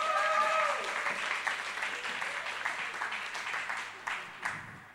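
An audience applauds with steady, dense clapping that holds fairly loud throughout, with a few sharper individual claps near the end as it begins to thin out.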